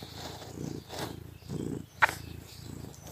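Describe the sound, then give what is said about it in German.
The speaker's pet cat, Kira, purrs in a low rumbling that swells and fades in steady breath cycles, with a brief faint click partway through and no talking. “Nun kommt meine Katze wieder ins Bild.”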